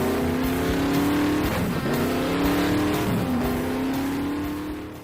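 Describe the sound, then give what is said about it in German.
The engine of a powerful, fast, big car roars, its pitch climbing and dropping through a couple of revs before settling into a steady, loud drone that fades slightly at the end. “Ja, nimm dir die Zeit, nimm dir die Kraft, die du brauchst, um mit deinem schnellen, dicken Auto von A nach B zu fahren.”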